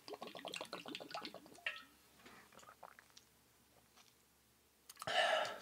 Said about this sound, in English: You drink your whole bottle in one big drink of bottle. You want me to drink my bottle of water? Drinking.